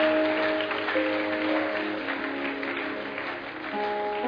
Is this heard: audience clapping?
yes